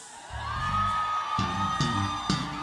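A large church audience shouts together as they move, a sustained, loud roar of many voices, with bursts of whoops and yells rising over the crowd noise.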